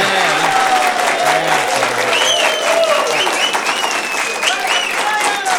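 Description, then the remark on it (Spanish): A live audience bursts into loud, steady applause that lasts for several seconds, dense clapping throughout while a few voices call out and cheer over it. “¡Aplaudan, pues!”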